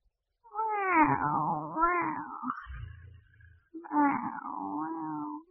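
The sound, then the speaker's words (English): A cat meows in two long, drawn-out, wavering yowls, loud, separated by a short pause with a faint low rumble, and no talking. “The cat is at home.”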